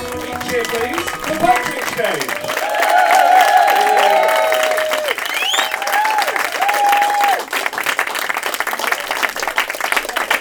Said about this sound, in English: Wow, that was seriously good cheering. Seriously, hello. Seriously good cheering.